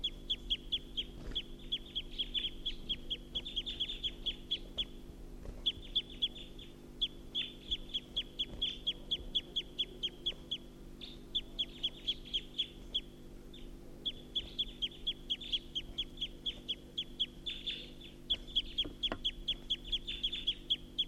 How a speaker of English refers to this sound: So recording, this is a wild bird perched at the tall pine.